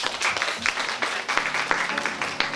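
Steady audience applause for the artists at an evening event, a dense crackle of many hands clapping at once with irregular sharp peaks, fairly loud and continuous throughout, with no voices standing out.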